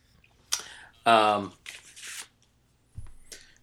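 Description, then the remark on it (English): Pages of a graph paper field-notes notebook rustle and flip in a few short, crisp bursts, with a brief voiced sound in between and quiet gaps. “Okay, I've got my field notes, craft graph paper here.”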